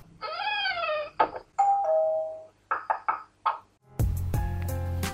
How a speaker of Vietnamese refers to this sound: tiếng boost trên Yahoo Messenger gợi nhiều cảm xúc hơn tiếng ping